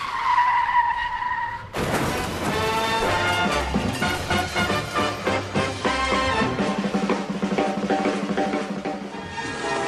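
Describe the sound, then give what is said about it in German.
A film car chase: a sustained, shrill tire squeal opens, then a loud, dense, chaotic burst of screeching skids and roaring engines fills the rest. “Die meisten filmischen Verfolgungsjagden verlaufen nach ein und demselben Muster seit Jahrzehnten.”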